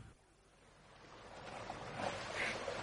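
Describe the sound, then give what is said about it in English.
Gentle water lapping at the shore of Derwentwater, a lake near Grange, a soft continuous wash that swells slightly louder toward the end, with faint breezy hiss and no voices. “Here's the lake, Joseph.”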